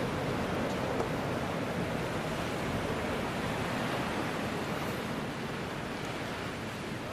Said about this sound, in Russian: Вон там волны, смотрите, как они.